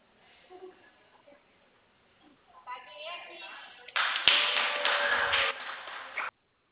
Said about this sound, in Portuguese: Desculpa as palmas, é que quando a gente fecha algum contrato, a gente bate palmas.